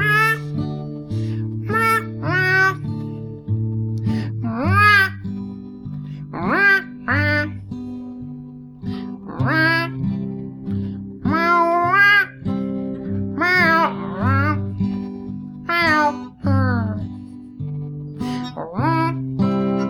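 Cat meows pitched and sequenced into a cheerful Christmas tune, repeated chirpy meows riding over a steady synthesized backing track, loud and continuous throughout.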